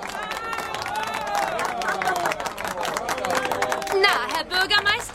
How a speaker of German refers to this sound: Wie gefällt Ihnen der Beifall?